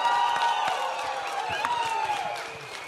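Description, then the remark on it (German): A crowd applauds the people from Kyiv and Munich with scattered claps while voices cheer and whoop over it, a steady, moderately loud burst that eases off slightly toward the end. “Und bitte einen ganz großen Applaus für die Kiewer und die Münchner.”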